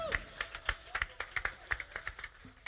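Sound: audience clapping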